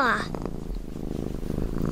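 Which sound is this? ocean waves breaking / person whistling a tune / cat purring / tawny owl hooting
cat purring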